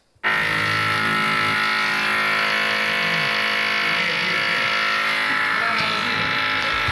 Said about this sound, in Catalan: Avui estàvem a segona hora fent classe i de cop ha començat a sonar un soroll molt fort d'algun utensili que utilitzen els paletes